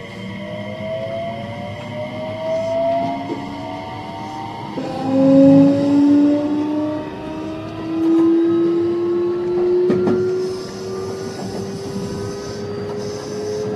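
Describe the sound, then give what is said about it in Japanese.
An electric train departs from a station, its motor whine climbing steadily in pitch as it gathers speed over a continuous rolling rumble, with no voices. “発車します。ご案内してください。”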